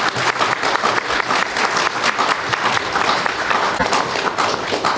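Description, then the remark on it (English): Steady applause from a room full of people at a meeting, given for the editing and reading of the resolutions, dense clapping that holds at an even level throughout without building or fading, with no voices standing out. “I'd like to have a round of applause for the work that Lena did”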